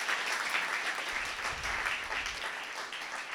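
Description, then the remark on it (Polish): A church audience claps steadily for a few seconds during a sermon, a dense, even wash of many hands with no voices rising above it. “I zdaję sobie sprawę, że niektórym z was ciężko się klaszcze w tym momencie.”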